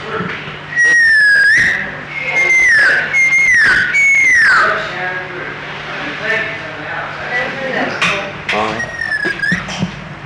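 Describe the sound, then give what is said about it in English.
A person whistles to call a horse into the pasture: several loud, piercing whistles, each sliding up and then dropping in pitch, repeated in quick bursts over faint background noise. “Well, if you can whistle, there's a whistle that horses respond to a lot of times.”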